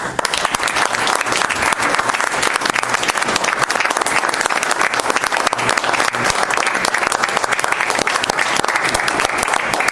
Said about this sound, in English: Now they're giving you a standing applause. Yeah, there you go.